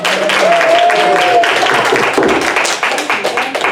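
An audience applauds with dense, steady clapping that stays loud throughout, and a brief high whoop or whistle rises above the claps early on.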